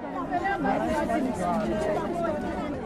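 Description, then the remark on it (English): A crowd gathered at a municipal office in Soweto, complaining about shoddy homes built by the ANC-led council, chatters at once, a steady overlapping babble with no single speaker standing out, holding an even loudness for the whole few seconds. “A crowd gathers at a municipal office in Soweto to complain about shoddy homes built by the ANC-led council.”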